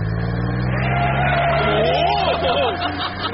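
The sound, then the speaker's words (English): A vintage Bentley car's engine rumbles steadily and then revs up, its pitch sweeping and wavering as it pulls away, loud throughout. “News travels fast. Nearly as fast as my vintage Bentley car.”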